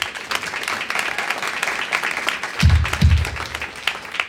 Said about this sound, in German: Einen Applaus bitte schon einmal.